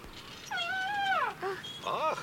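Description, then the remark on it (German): A baby elephant cries out with high, wavering squeals: one long drawn-out call, then two shorter ones close behind. The calls are fairly loud, with no talking. “Oh, ja süß, der kleine Elefant, der schreit sicher nach seiner Mutter.”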